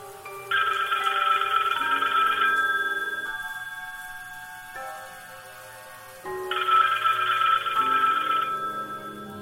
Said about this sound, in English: the phone is ringing as Bakersfield is searching